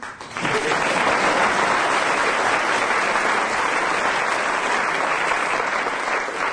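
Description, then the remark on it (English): Loud, sustained applause from a large audience greeting a late arrival, a dense wash of clapping that swells within the first half second and holds steady without pause for several seconds. “what I'm going to do is, the next time the audience applauds a late arrival vociferously, we shall close the program.”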